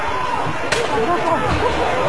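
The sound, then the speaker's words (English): A single sharp gunshot crack in the House chamber at the Capitol cuts through a constant murmur of many voices, a brief loud snap standing out against the steady crowd noise. “tells us that crack you just heard was gunfire”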